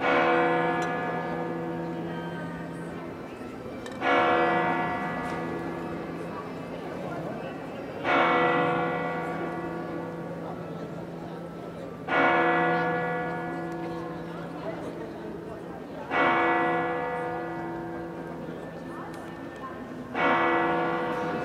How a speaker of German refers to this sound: So klingt es, wenn in Santiago de Compostela hier direkt auf dem Platz vor der Kathedrale die Glocken der Kathedrale pünktlich zur Sendung von uns um 18 Uhr schlagen.